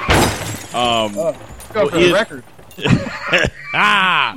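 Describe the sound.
A voice imitates a car crash with shattering glass: a run of groaning, pitch-bending vocal cries broken by harsh hissy bursts that mimic breaking glass, loud and uneven over about four seconds.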